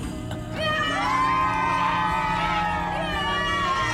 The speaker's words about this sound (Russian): Ой, поглядите, вся эта толпа людей восхищается только им, одним.